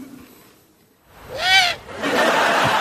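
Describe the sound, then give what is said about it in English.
An owl gives a single loud, rising-then-falling call with a bright, ringing tone, followed by a steady rush of broad noise that continues to the end. “Do you like owls?”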